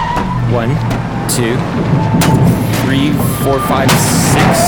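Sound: car driving in traffic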